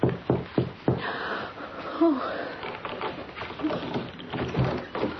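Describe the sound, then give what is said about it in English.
A few soft, quick knocks on the locked door of a shabby hotel room at the start, followed by muffled rustling and faint breathy sounds over a hissy background. “Suddenly, her frayed nerves vibrated like rubber bands at a soft knock on the door.”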